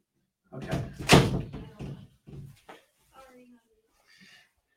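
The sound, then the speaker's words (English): A door swings and shuts with one loud, sharp thud, followed by a few softer knocks and rustles as things settle. “I'm going to close this door.”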